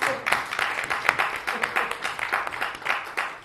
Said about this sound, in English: Can we just give a big round of applause to this Mataji?